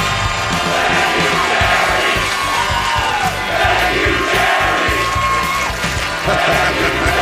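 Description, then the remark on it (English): A large stadium crowd chants "thank you, Jerry" in unison after Thursday Night Football, where the Green Bay Packers beat the Washington Commanders, during Micah Parsons' on-field postgame segment: a loud, dense roar of many voices rising and falling in a repeated rhythmic pattern that holds steady for several seconds. “Lay out for a second because this crowd has something to say.”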